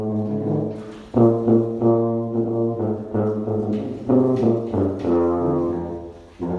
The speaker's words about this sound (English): And then we're going to go door to door in our neighborhood and tuba carol at a safe social distance from the people in the house and from each other.